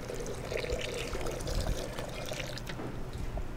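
About a cup and a half of boiling water is poured steadily into a blender with an equal amount of sugar, a continuous splashing and gurgling stream lasting a few seconds with no talking.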